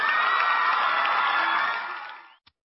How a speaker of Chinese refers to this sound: 老师，好，老师来了，再来一个掌声。